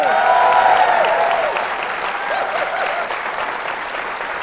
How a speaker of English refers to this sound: Don't applaud that. Don't applaud. It won't make any sense. People will just hear applauding. They're like, what are you applauding? Because I've cut that bit out.